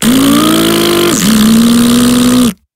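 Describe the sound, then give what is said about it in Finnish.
A car engine revs loudly and steadily, climbing in pitch, dipping briefly around the midpoint, then holding high again before cutting off abruptly. No one speaks. “Koska insinööri ajaa autoa näin.”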